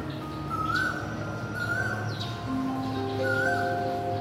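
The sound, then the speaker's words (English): A koel calls repeatedly in the distance, its rising whistled notes, like "kawa", recurring about every second over a steady hum of background noise, with no talking. “You can always hear my favorite bird in the distance. It's called the coal bird. And the bird call sounds like, "Kawa! Kawa!"”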